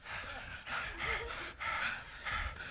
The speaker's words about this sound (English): we sure was doing a lot of breathing for two people.